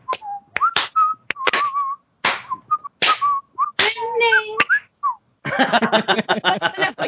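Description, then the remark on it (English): Someone whistles a short, wavering tune in bright notes into a pop filter, punctuated by sharp clap-like hits between phrases, ending in a denser, buzzier run of quick tones. “It's kind of hard because I'm whistling into my pop filter”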